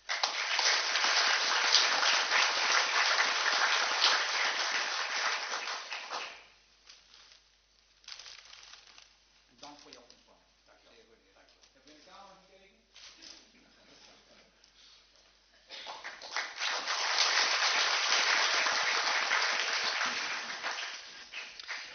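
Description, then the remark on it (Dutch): Two bursts of dense audience applause, loud and steady for about six seconds each, separated by a quieter stretch with faint voices talking and murmuring. “Mag ik voor jou ook een applaus?”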